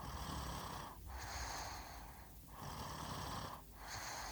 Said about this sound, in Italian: Sul mezzo si diffonde un dolcissimo russare, ipnotico, psichedelico.